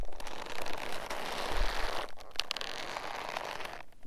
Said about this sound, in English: uses an old ammo pouch he found at a surplus store. They had a pile of these, and I went through them until I found the one that was, you breathed on it, it would make an incredible leather creak.